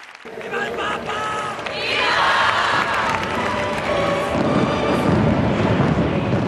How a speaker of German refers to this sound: Feuerwerk und bengalische Lichter besiegeln die Worte Benedikts. Valencia ist berühmt für seine zündenden Lichtspiele, doch nur die Hälfte der Pilger konnte sie sehen.